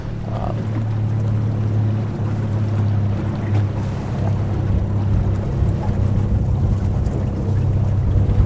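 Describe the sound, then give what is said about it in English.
Steady wind rushes across a microphone aboard a small boat on a small lake, pushing the boat in a little, with a constant low hum underneath and faint lapping of water throughout, with no voices. “It's got the wind pushing us in a little bit.”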